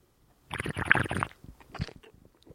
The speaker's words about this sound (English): That deserves another sip of wine.